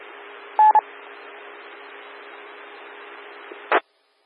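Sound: telephone dialing tones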